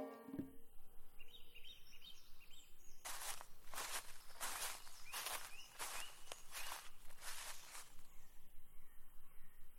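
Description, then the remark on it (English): Outdoor ambience in a forest with trees and herbs, with a steady crunching of footsteps on leaves or soil, about seven or eight paces in a regular rhythm, while birds call faintly. No one speaks. “What a fresh air! Oh, pure oxygen! I am in the forest.”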